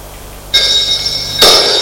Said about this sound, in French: Le téléphone sonne. Elle a décroché.